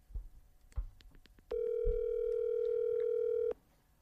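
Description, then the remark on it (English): A single steady ringback tone from a phone call placed on the show Bad Friends, one long mid-pitched beep lasting about two seconds, preceded by a few soft, low thumps and faint handling noise. “See what ring he answers.”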